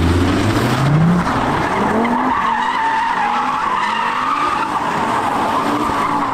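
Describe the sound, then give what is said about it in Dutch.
A loud car, driving fast on the German autobahn, revs and roars continuously, its pitch climbing and sweeping as it speeds, with a high tire-squeal whine riding over the rumble throughout. “Toen zei hij, zo, dat hoor je echt nog goed, jouw auto.”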